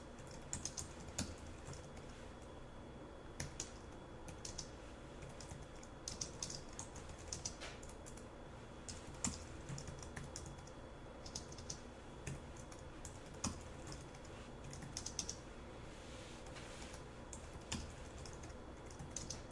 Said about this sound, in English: Take a moment, create the project, catch up with me, pause the video if you need to, and then I'm going to begin typing in our first example.